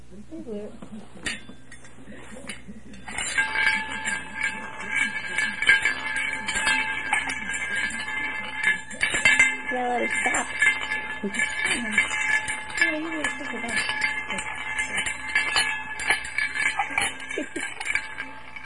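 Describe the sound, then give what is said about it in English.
Marbles clink and rattle together in a steady, ringing stream for several seconds, fairly loud, with occasional sharper knocks and people murmuring in the background. “In here. With the marble.”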